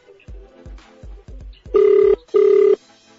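A telephone ringback tone on an outgoing call: two loud, steady tonal bursts in a quick double-ring pattern, preceded by a few soft low thumps, with no one talking.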